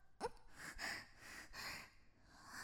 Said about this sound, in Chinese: 你只能听到我的喘息声吗？我在跟你说话。